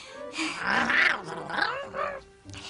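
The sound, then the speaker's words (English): A big, fire-breathing dragon's throaty growl rumbles and snarls for a few seconds, rising and falling in a rough, roaring contour before trailing off into a short, lower grumble. “Yes, for your, growly throat you've got there.”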